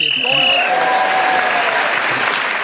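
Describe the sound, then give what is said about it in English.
A sharp, steady game show whistle blast lasting under a second, blown while Graham Norton was speaking, immediately swallowed by a wave of audience applause and cheering that carries on to the end. “So, Graham Norton was speaking as the whistle went, and he has leapt forward.”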